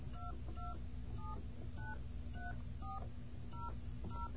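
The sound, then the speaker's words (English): A rapid series of about eight short touch-tone keypad beeps, each a brief dual-pitched tone, dialed at a steady pace over a constant low hum, with no talking, as a collect phone call is dialed from an internal phone system. “And we're going to, I guess, dial BAI.”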